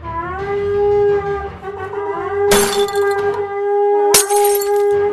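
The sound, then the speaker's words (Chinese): Two loud, sharp crashes of jars smashing as soldiers break the jars in their hands, a couple of seconds apart, ring out over a steady, droning horn blast as the soldiers blow their horns, at night. “接下来所有的士兵都吹起了角，打碎了他们手中的瓶子， 点起了火把。”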